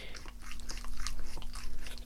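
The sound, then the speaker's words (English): Wet smacking and slurping of Carrie Fisher's dog licking her hand in NPR's New York studio, a steady run of quick tongue laps over a low steady hum, loud and continuous with no talking. “like when I was in Fresh Air's Philadelphia studio talking with Carrie Fisher, who was in NPR's New York studio, with her dog, who started licking her hand.”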